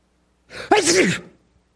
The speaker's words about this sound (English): Your child sneezes on his hand.